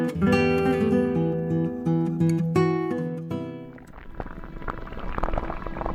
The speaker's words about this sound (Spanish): Si para ti esto es arroz hirviendo, es que tienes el don. Disfrútalo. Arròs Daxa, l'autèntic arròs de València amb denominació d'origen.